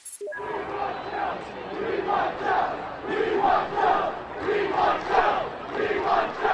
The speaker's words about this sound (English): Thousands of students flooded downtown State College Station in the immediate aftermath of the firings.